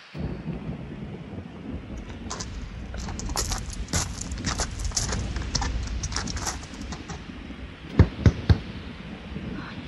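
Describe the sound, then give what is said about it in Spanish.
Hurried running footsteps head toward a cabin, pattering through steady heavy rain and storm rumble, followed by three loud, sharp knocks near the end. “Pues córrele, órale, rumbo a la cabaña.”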